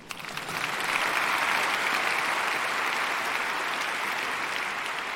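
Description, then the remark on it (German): A brief round of applause from a crowd, steady dense clapping that rises quickly and holds at an even level for about five seconds, with no talking over it. “Kurzer Applaus für Thorsten.”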